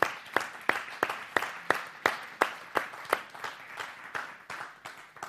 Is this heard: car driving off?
no